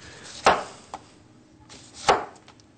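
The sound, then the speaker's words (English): A knife chops an onion on a board: two crisp, sharp thuds about a second and a half apart, with a lighter tap in between and no talking. “Chopping onions is real easy.”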